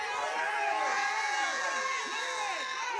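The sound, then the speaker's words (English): An audience screams and cheers in praise to God in a dense, continuous roar, with many overlapping high-pitched voices rising and falling in swooping shouts, steady and loud throughout. “Come on, scream. Scream till a scholarship comes.”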